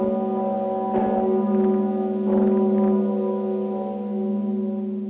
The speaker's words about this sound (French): Vous avez entendu le bourdon Zikmund Sigismund, la plus grande cloche en République tchèque, haute de 2 mètres, pesant 14 tonnes et richement décorée.